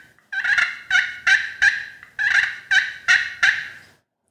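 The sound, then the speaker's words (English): A friction turkey call sounds two quick series of about four raspy, high-pitched yelps each, loud and clear with a short pause between the runs and no talking. “And is that partly the aluminum versus the ceramic that gives it a little bit of rasp? The ceramic has a higher pitch.”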